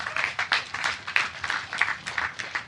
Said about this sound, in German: Ey, danke erstmal für dein Plädoyer. Kurz Applaus dafür.